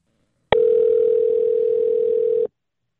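A single two-second burst of the ringing tone of an outgoing phone call to a father, a steady electronic hum that starts and stops abruptly, heard clearly on its own with silence around it.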